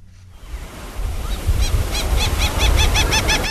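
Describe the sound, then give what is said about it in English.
Waves wash steadily onto Treasure Island's municipal beach, where vegetation grows near the water and seaweed is accumulating, with a low, rumbling roar and some wind, while a bird gives a rapid series of short, high, chirping calls over the surf. “Vegetation is growing near the water on Treasure Island's municipal beach, and seaweed is accumulating.”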